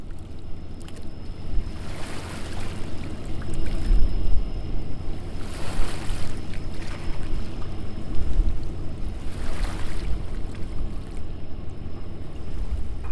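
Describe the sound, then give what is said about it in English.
Outdoor ambience on the banks of the Mississippi River at Fort Defiance, at the southern tip of Illinois, about four minutes before totality of a total solar eclipse: a steady rumble of wind and moving water, with broad washing swells rising every few seconds. No one speaks. “on the banks of the Mississippi River, and I am in Fort Defiance in the very southern tip of Illinois, and we're about 4 minutes away from totality, and it looks like a shadow has just been cast over us”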